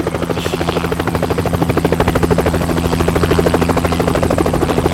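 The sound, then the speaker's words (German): A black-and-red helicopter landing on a meadow beside a shoe basket, with steady, rapid rotor blade chopping and a droning engine hum, loud and continuous throughout, with no voices. “Ein schwarz-roter Helikopter setzte zur Landung auf der Wiese neben dem Schuhkorb.”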